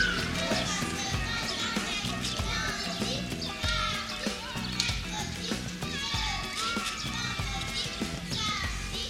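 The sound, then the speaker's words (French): On a calm pedestrian street with few passing cars, children's voices chatter and call out at play over a steady outdoor murmur, with light high bird chirps scattered throughout and no traffic noise breaking through. “C'est assez calme, on entend les enfants, les oiseaux.”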